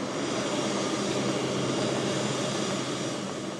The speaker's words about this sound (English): As we talk, a plane that's been in storage is taking off from the runway, bound for Asia, the Middle East, or South America, where fuel is cheaper.